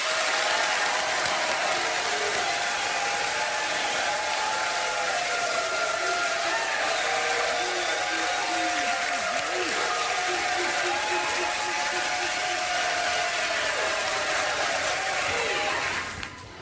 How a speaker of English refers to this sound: Now, not quite going crazy, but robust applause in three, two, one.